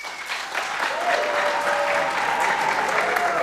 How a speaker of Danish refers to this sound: Kunne lade dem klappe. Ja, altså lad os lige høre en klapsalve lynhurtigt. Hvem er, må jeg høre en klapsalve på Fedtmøg?